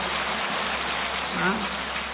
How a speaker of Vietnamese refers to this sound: Đó là tốt hay xấu? Tốt. Tốt thì đương nhiên phải một tràng pháo tay thật to chứ.